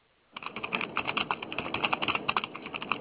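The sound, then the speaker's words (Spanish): Rapid, continuous clicking of computer keyboards being typed on, a dense patter of keystrokes starting after a brief pause and carrying on steadily, with no voices. “¿Qué te rodean tantos teclados?”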